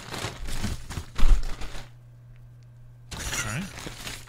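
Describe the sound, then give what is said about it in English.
Crisp, crackling rustle of a bag of Chipotle chips being handled while someone unpacks their food, in busy bursts for a couple of seconds, a short lull, then another round of crinkling with a faint voice mixed in. “You sound like a fucking cat digging through a bag of trash.”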